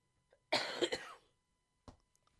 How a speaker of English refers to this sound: Excuse me for the coughing. I apologize. But it's been awfully dry out here.